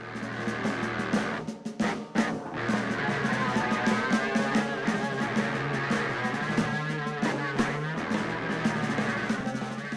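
A French horn run through a distortion pedal, from the Air Names recordings made with the Electroacoustic Research Space at UW-Madison School of Music, playing sustained, buzzing, gritty tones with a dense harmonic roar, briefly cutting out near the start before holding steady and loud without any talking.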